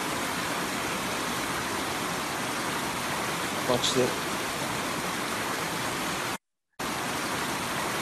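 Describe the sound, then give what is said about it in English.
A river at Stewart Mineral Springs in Mount Shasta rushes and churns in a dense, steady wash of water noise, loud throughout, like many little bubbles, with a brief spoken phrase partway through and a short dropout near the end. “Here is simply a river.”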